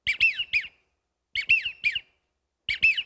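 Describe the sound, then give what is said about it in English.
Three bursts of a wigeon (baldpate) duck's whistled call, each a quick run of three breathy, high whistles with a rising-falling lilt, separated by short silences, with no talking. “And this is a ball pate or a widgeon.”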